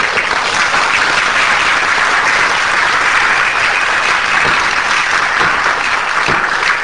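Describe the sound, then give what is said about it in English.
A large crowd in the bleachers at a courtroom trial in Tennessee claps loudly and continuously, a dense, steady roar of many hands applauding at once throughout, with no voices standing out. “A great applause from the bleachers.”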